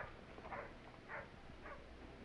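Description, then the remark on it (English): A dog named Rover barks three times at a steady pace, fairly faint, over a constant low background hiss with no one speaking, as it is set free at the King's Pyland stables. “Just wait till I set the dog free.”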